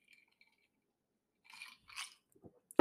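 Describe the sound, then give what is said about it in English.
Someone takes a sip of a drink, with a couple of short wet slurping mouth noises and a swallow, ending in a sharp knock like a cup set down. No one speaks. “I'll have a sip here.”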